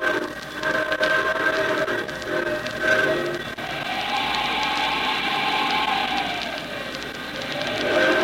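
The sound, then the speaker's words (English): A fur train loaded with valuable cargo rumbles steadily through wind and snow on a cold January morning in Canada, on a slow trek from the northwest to Montreal, with a continuous hiss and clatter joined by a wavering whistle-like tone that rises and falls. No voices are heard. “On a cold January morning, a fur train loaded with the year's most valuable cargo is battling the wind and snows on a slow trek from the northwest across the country to Montreal.”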